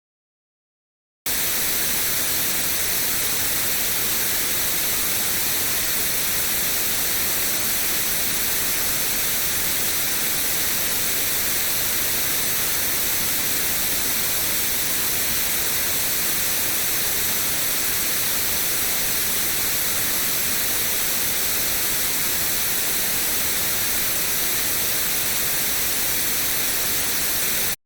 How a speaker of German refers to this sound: Und wir hören jetzt noch kurz hinein, reines weißes Rauschen, ein sehr scharfer Begriff, wie Andrea Sodomka meint.